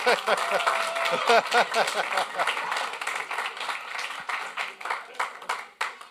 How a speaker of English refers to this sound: Now, when it's done, it gets a big round of applause when he's done that. Yeah, he's getting there.